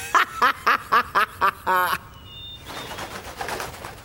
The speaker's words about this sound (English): What was that? A dove. Not the owl? No.